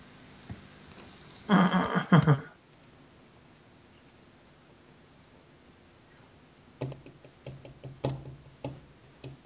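Quick, uneven keyboard typing clatters during the last few seconds, following a brief loud burst of sound near the start and a quiet stretch in between.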